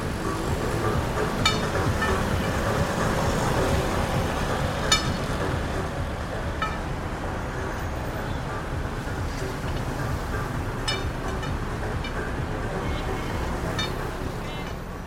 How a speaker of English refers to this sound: In this recording, a blind man uses a lead pipe to echo navigate along the sidewalk, while a commercial blares on repeat from a pair of speakers in a nearby plaza.